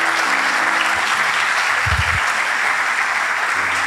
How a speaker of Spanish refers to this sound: Algunos están aplaudiendo. Allá. Soltá. Mientras vas aplaudiendo, anda desaferrándote.